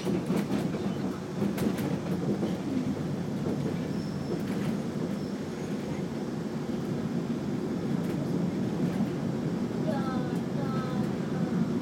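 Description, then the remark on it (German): A train on Rügen, running from Binz to Göhren at up to 30 km/h with carriages partly 100 years old, rolls steadily along the rails through green forest with a continuous low, rumbling roar, a few sharp clacks early on and brief high squeals of metal toward the end. “Ansonsten ist ja auch das Fahrgeräusch ganz entspannt.”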